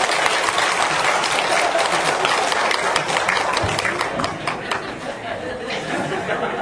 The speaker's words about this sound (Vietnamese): thì đại chúng nếu đồng ý xin cho tràng pháo tay.